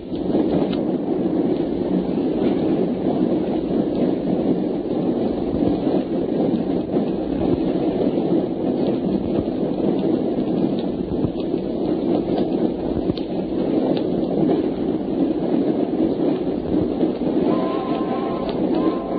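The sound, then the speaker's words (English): A train rolls past in a steady, heavy, loud rumble that fills the whole stretch without letting up, with a faint tonal squeal creeping in near the end. “That was a train passing by.”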